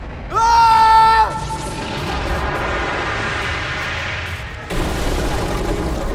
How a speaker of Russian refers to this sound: Ракета с грохотом врезалась в ящики. Раздался взрыв.